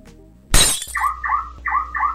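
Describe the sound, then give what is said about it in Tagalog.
A sudden loud crash of a car window being smashed by thieves breaking into a car, with glass shattering and spraying, followed at once by a repeating electronic alarm tone pulsing in a steady rhythm. “Uy, Han, ninanakawan yung kotse ng brad mo, oh.”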